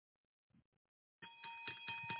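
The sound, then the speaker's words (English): A bell rings rapidly and continuously, its bright metallic tone repeating in quick pulses and sounding fairly loud, after a brief moment of faint muffled noise. “Do you hear that bell? That's for all those who received salvation today or rededicated their lives.”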